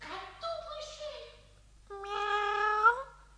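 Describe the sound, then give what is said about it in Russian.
A cat meows twice, fairly loud: a wavering, falling cry, then after a short pause a longer, stronger meow that rises in pitch before cutting off. “Все будет хорошо, котик.”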